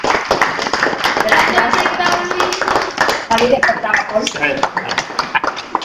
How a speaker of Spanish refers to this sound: Muy bien, pues un aplauso. Vamos. Gracias.